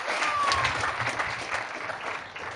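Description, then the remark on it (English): Steady audience applause introducing a talk by Nick Farr on direct action through dance, a dense wash of many hands clapping at an even, moderately loud level for a few seconds without any voices standing out. “Okay, so a big applause for Nick Farr and direct action through dance.”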